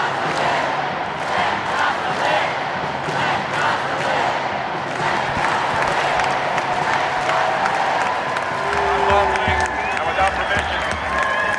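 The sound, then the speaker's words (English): A loud protest crowd roars continuously, with overlapping shouts, chanting voices and scattered clapping, dense throughout. “I would like to say that to the crowd if it were possible.”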